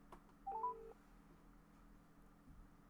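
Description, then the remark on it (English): A few quick electronic keypad beeps as a phone number is dialed, clear, followed by a steady low hum with no one speaking. “I'm going to phone him up because I want to take his challenge on”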